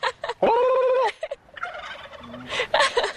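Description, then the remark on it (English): A voice, asked to imitate a whoopee cushion, instead imitates a turkey gobbling: a few quick warbling bursts, then a loud, buzzy sustained note about half a second long, followed by fainter, rapid fluttering gobbles. “That was a turkey. I heard it.”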